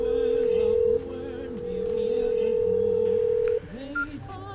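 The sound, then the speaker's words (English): A loud, steady telephone dialing tone holds for about three and a half seconds over quieter voices talking as a phone call is placed, then cuts off, followed by a brief high beep. “Let me call this young man.”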